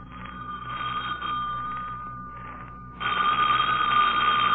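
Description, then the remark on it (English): An old-fashioned telephone bell rings with a rapid metallic clatter, fades briefly, then rings again louder, with no voices. “I rushed to the phone quickly.”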